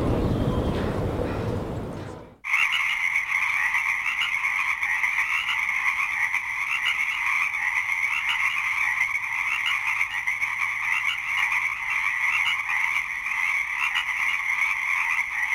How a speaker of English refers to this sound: In a few minutes, listen for the song of the Pacific chorus frogs being interrupted by a jet plane passing overhead. You are listening to a special 24-hour Earth Day broadcast of the soundscape from the Tuktuxin Marsh